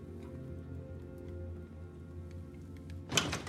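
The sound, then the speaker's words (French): A steady low rumble of rain-like ambience fills the scene, then near the end the front door of a blue house clicks and swings open with a sharp rattle and thump as a young woman enters. “Elle pénètre dans la maison, jette un regard autour d'elle et pose son sac.”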